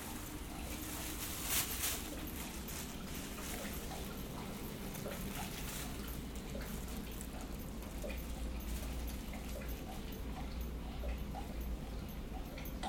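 A male dog laps water from a full bowl in a steady, quick rhythm of small wet clicks, fairly quiet, continuing throughout over a low background hum.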